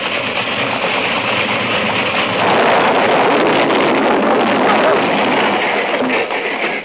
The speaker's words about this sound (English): Looked to me as if that trestle just gave way and that little train plummeted 1,000 feet to the bottom of that gorge